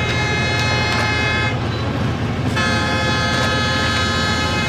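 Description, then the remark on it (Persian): A train approaching from a distance blares its horn in long, sustained blasts with a brief dip in the middle, over the steady rumble of the train. No one speaks. “یه قطار از دور نزدیک میشه.”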